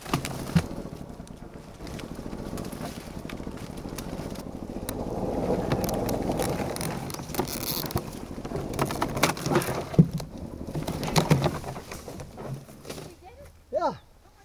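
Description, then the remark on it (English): A small golf cart motor whirs and strains while towing a hollow fig tree stump of about 200 pounds by a rope, with scraping, creaking and thuds as it drags, and brief voices near the end. “It was time for plan B, golf cart as tow truck, and I'm the tow truck driver.”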